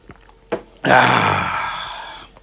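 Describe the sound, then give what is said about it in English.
A sip of a drink: a small click, then a long breathy slurp or exhale that fades out over about a second and a half. No talking. “Let me get me a sip real quick.”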